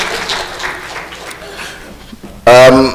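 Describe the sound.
An audience claps steadily for a couple of seconds, a diffuse wash of applause that fades slightly before a loud, close voice suddenly starts speaking near the end.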